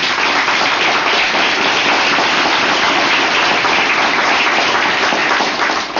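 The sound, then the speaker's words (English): Steady, dense applause from an audience for the first team, a continuous crackle of many hands clapping at once, loud and unbroken for several seconds with no voices over it. “Well, you should give the first team, actually, some applause. Give them a hand.”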